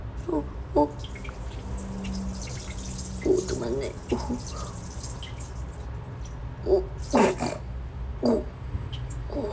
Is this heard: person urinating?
yes